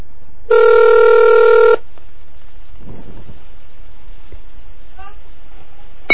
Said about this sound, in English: Now this one should pick up. I dialed up into this phone using Hyper Terminal.